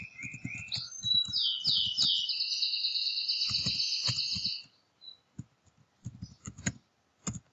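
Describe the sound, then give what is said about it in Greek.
Quick, irregular computer keyboard clicks tap out in short bursts as someone types a search for educational software into the Google search engine in the Chrome browser, moderately loud, while a high twittering chirp runs through the first half before the typing continues alone. No one speaks. “Αρχικά ανοίγουμε το Google Chrome και στη μηχανή αναζήτηση της Google γράφουμε εκπαιδευτικό λογισμικό.”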